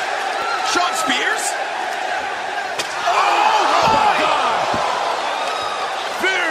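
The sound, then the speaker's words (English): A steel chair cracks against the side of someone's head with a sharp slam, and a few more thuds follow, all over a loud roaring arena crowd that swells with cheers and whoops. “Chair shot right to the side of the head of Cody, who couldn't even get his hand up.”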